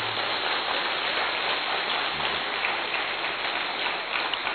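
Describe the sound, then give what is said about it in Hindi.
Loud, dense applause from many people, a steady crackling wash of clapping that holds at an even level for several seconds with no voices heard. “और अंत में सबसे ज्यादा धन्यवाद मेरे बाबा को, खूब जोरदार तालियों।”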